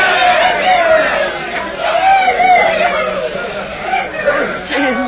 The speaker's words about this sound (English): Look how happy everyone is. Look at them cheering and shouting.